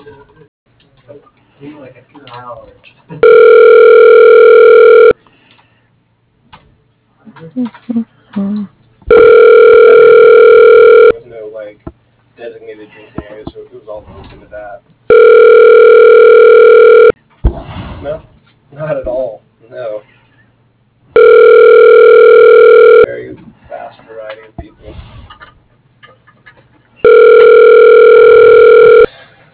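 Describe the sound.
A telephone ringback tone on a call to IOU Financial sounds five times in a steady rhythm, each ring a loud, buzzy two-second tone, while a voice talks in the gaps between rings, all thin and phone-filtered.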